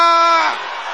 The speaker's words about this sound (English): Can I hear them shouting power?